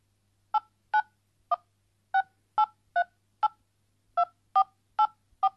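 Eleven short keypad beeps sound one after another, each a clean dual-tone blip, pressed at a slightly uneven pace as an 11-digit mobile phone number starting with 8 is entered to look up an order. No voices, just the tones over quiet background.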